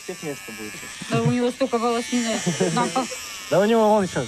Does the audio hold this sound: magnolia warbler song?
no